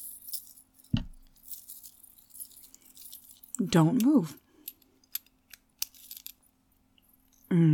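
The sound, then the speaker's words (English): A leash rattles and clinks as it's clipped onto a puppy's collar for a walk around a store: scattered sharp metallic ticks and jingles, some bright and crisp, with a short spoken phrase in the middle and a low hum underneath. “Mistress wants to walk you around the store, and what does a puppy need for a walk? That's right, a leash.”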